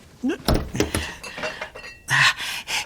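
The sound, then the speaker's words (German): Metal pots and pans in a kitchen are accidentally knocked over, clattering and banging together in a burst of sharp, ringing clanks, then a second loud crash with lingering metallic rattles near the end. “Okay, aber pass auf, dass du keine Töpfe oder sowas umwirfst und das ganze Haus wächst.”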